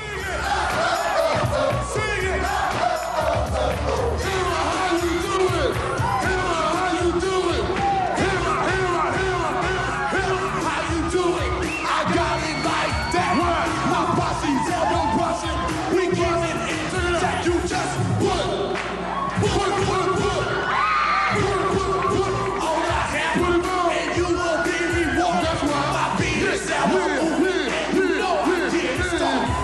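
A live rap performance on the Arsenio Hall show in 1989, with a studio audience yelling and cheering over it, loud and dense for the whole stretch, with rhythmic vocal delivery and crowd whoops throughout.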